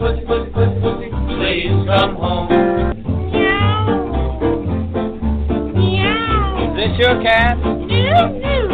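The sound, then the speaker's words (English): A cat meows several times, drawn-out, rising and falling cries, loud, over a steady thumping music beat that runs throughout. “Well, is this your cat?”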